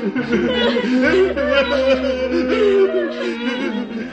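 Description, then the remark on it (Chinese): Funeral music and mourners wailing and sobbing together in a house where a girl has died, a dense, mournful chorus over a low sustained musical drone, fairly loud and holding a steady intensity throughout. “耶稣继续向埃鲁家走，这个时候家中传来哀乐以及悲哭声，而且越来越响。”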